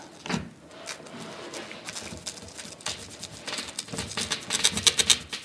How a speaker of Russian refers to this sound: Вы слышите характерный хруст. Это говорит о том, что стекло режется. Естественно, этот звук может быть громче, слабее. Все зависит все-таки от твердости стекла.